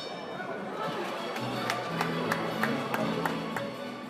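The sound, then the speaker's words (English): A dense crowd murmurs and chatters on a Friday night in the Belasco Theater in downtown Los Angeles at LA Fight Club, a boxing series hosted by Oscar De La Hoya, a steady wash of many overlapping voices with a few sharp claps or knocks cutting through at irregular intervals. “It's Friday night at the Belasco Theater in downtown LA, and the crowd is full of broken noses, cleavage, and tequila.”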